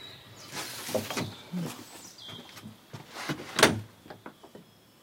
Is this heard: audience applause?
no